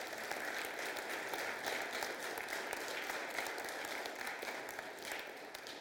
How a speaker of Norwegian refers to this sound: Synes vi skal gi dem en skikkelig klapp, ja.